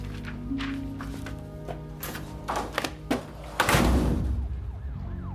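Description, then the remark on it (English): A man takes a piece of paper from a filing cabinet drawer, adds it to a file and drops the file into a drawer: a few papery clicks and knocks, then a metal drawer rolls along its runners and thuds shut, all over a steady droning, siren-like tonal background. “He takes a piece of paper from a drawer and adds it to the file before dropping it into a drawer.”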